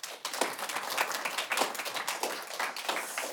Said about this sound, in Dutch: En voordat ik de stelling ga laten horen, zou ik graag eerst een groot applaus van en voor de debaters willen.